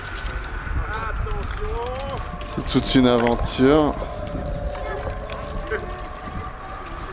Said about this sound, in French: Je sens que ça tourne, le vent tourne. Il y a un peu de vent.